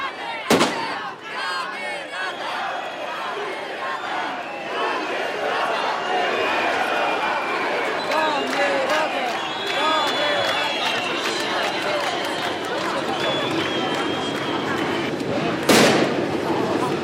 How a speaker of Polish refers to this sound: Petardy wybuchają i to widać, z której strony wybuchają.